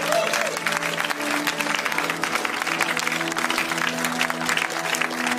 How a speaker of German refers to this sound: Hey, lass uns denen mal einen großen Applaus geben.